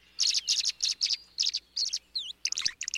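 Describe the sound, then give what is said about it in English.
A swallow twitters in a quick, continuous run of bright chirps and buzzy trills, with a couple of rising whistles, clear over a quiet background, as it glides low across a pond and skims water on the wing. “Gliding low across a pond, a swallow tilts its wings upward, lowers its head to the water's surface, and skims a beakful of water on the wing.”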